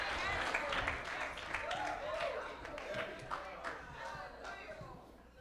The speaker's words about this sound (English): Clap your hands to the Lord, somebody.